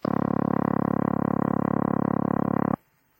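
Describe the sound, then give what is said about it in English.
A steady, buzzing telephone dialing tone holds at a constant pitch for almost three seconds, then cuts off abruptly into near silence. “Now run over these 4 tones again. Dialing tone.”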